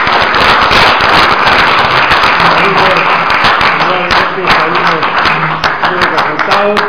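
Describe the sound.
A crowd breaks into loud, sustained applause for a rabbi after his talk, dense overlapping claps going steadily for several seconds, with a few voices murmuring underneath.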